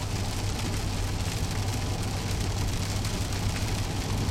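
Heavy rain drums steadily on a 1999 Dodge Dakota truck with a V8 engine, a dense hiss of drops with no letup, while a low engine-like hum runs underneath. No one speaks.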